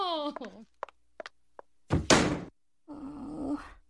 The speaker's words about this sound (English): What I find so impressive about this clip is the fact that the woman was able to close the door with her ass.